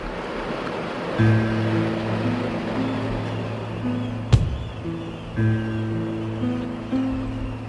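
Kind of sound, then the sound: nature, sea waves and breeze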